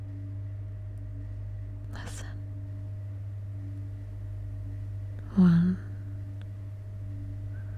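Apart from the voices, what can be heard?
elevator humming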